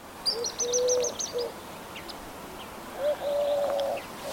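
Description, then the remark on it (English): Eurasian collared doves coo in a spring courtship duet, one lower pitched and the other higher: two smooth, low, drawn-out coo phrases separated by a short pause, with thin high chirps from smaller birds in the background. “That's a collared dove, isn't it? Yeah, it's a courtship unit. I love Eurasian collared doves.”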